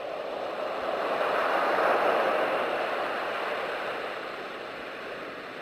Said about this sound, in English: Turn on soothing baby sounds. Wait for sleep to wash back over her.